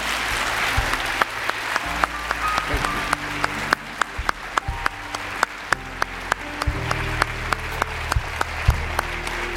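An audience applauds a pastor steadily, many hands clapping in a dense, sustained wash with a few sharper claps standing out, while a low sustained tone, likely an organ or keyboard, plays underneath.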